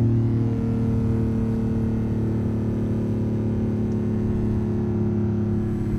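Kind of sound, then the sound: vehicle, sports car engine accelerating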